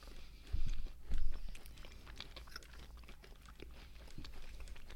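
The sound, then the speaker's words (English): Crunchy chewing of a Boston cream pie snack pie with a crunchy crust, with irregular crisp bites and mouth sounds, two heavier crunches early on, then steady softer mastication with no talking. “The crust is really good. It's like crunchy.”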